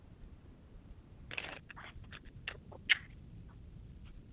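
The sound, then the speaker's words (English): Cards being shuffled: a quick run of soft riffling and flicking bursts, then a few sharper snaps, heard alone over a low steady hiss with no one talking. “I hear people shuffling. It's probably me.”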